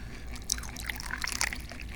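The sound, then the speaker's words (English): Jin Jun Mei tea pouring into a teacup, a steady trickle of liquid with bright splashy bursts, continuous for a couple of seconds with no talking. “I'm mostly known for drinking tea, so let's pour some tea into the teacup here.”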